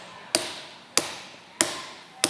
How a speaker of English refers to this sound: But oh, on the third day, I said, on the third day, all of a sudden there came a loud knock on the gates of hell.